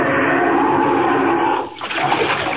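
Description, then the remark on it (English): A loud, continuous rush of churning water as Superman plunges down into the water among Arctic icebergs, with a brief dip and bubbling swirl before the roar picks up again. No voices. “Down, down, right into the water.”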